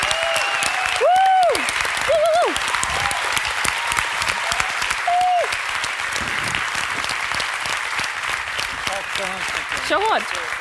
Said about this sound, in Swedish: Applåd, Kristoffer Triumf!